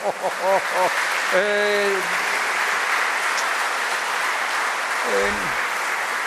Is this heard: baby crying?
no